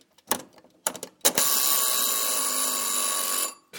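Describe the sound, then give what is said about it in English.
A wind-up oven timer bell gives a few sharp mechanical ticks, then rings out in a loud, bright, sustained metallic jangle for about two seconds before stopping abruptly. No one speaks. “Now it is ticking very gently.”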